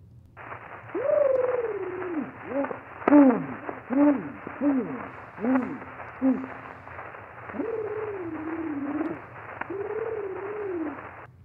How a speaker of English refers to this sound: This might seem like just the 1881 equivalent of testing, one, two, three, but consider, at long last, we finally get to hear what one of those reference trills they used constantly in their work actually sounded like.